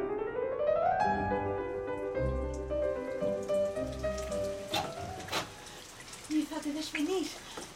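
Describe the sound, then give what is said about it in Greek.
Heavy rain that has grown stronger hisses steadily throughout, blended with sustained tonal sounds and a murmur of voices, the downpour staying constant in the background. “Δυνάμωσε η βροχή.”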